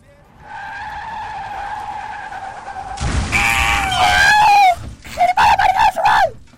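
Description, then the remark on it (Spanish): A long, steady tire screech as a car skids, then a sudden loud impact followed by wavering, shrill yowls and several short screeching cries as a cat is run over by the car, the third of several times this cat was hit. No speech. “Mira, aquí va el tercer atropello.”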